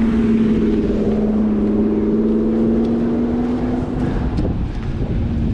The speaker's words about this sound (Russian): О, какая машинка хорошая.